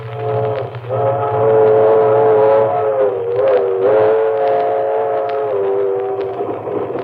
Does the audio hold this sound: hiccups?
no